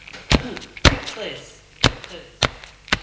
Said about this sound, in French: Elle tape des pieds.